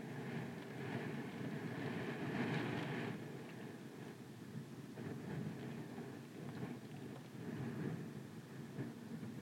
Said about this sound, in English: This is the sound of rainwater, rain droplets dribbling down the outside of a hotel window.